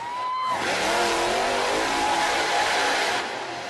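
monster truck engine revving

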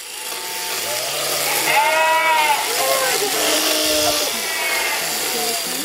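sheep bleating

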